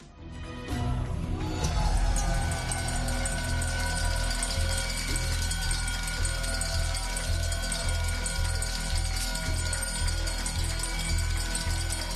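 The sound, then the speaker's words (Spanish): A loud electric bell rings continuously for about ten seconds, a dense, steady metallic clang, with a busy crowd murmuring and cheering underneath, at the Nasdaq in New York as Cádiz Club de Fútbol becomes the first LaLiga club to list on the New York stock exchange, through its subsidiary Nomada. “Hoy el sonido del día es este, el de una campana.”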